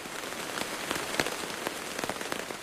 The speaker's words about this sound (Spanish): Cuando llegué cerca de su borde, llovía violentamente. Sentí que las lluvias me advertían que no debería volver a enfrentarlo.